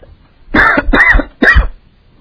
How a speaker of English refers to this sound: If you get this coughing in, don't type it up.